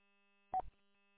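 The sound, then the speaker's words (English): A faint, steady telephone dial tone hums throughout, interrupted midway by a short, louder burst of dialing tones lasting under a quarter second. No one speaks. “But, all right, anyhow, let me make a phone call real quick, and then I'll give you a call when I'm turning in your street.”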